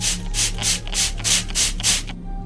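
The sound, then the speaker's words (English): Seven short, bright hissing bursts of glow-in-the-dark spray in a quick, steady rhythm, each about a third of a second, over a low steady hum, as the spray is used on themselves, then the spraying stops. “Take a spray, everyone.”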